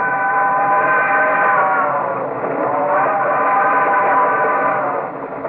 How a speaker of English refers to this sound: From the U.S. air bases, there was an almost continuous traffic of warplanes taking off and returning from missions.